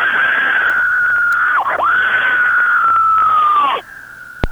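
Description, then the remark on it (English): A woman lets out a long, loud, sustained scream for a singer lasting nearly four seconds, with a brief break in the middle, before it cuts off abruptly. “now I'm going to scream.”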